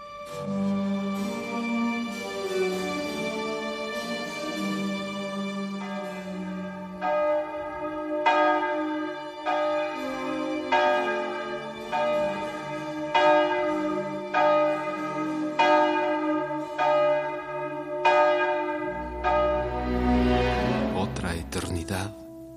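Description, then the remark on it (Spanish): A church bell tolls twelve, each loud, ringing strike landing at a slow, steady pace while its rich metallic hum lingers and overlaps the next. “Y sonaron las 12.”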